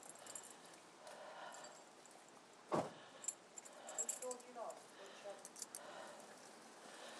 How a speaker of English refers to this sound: No, our mum just said she's got to have the keys off me to lock the front door.